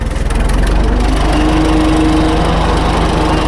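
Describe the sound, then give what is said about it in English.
An old tractor engine idles steadily on a war-era ploughing rig from the north of Scotland with a trailing plough, belonging to host farmer Andrew Gammy, a loud, low, rhythmic chugging with fast regular beats and a faint whining hum on top, continuing without a break and with no voices. “As you can hear, it's ticking away there quite the thing.”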